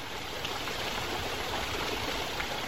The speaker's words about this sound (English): Mountain streams, rivers cascading down from snow-packed glaciers high in the Himalayas.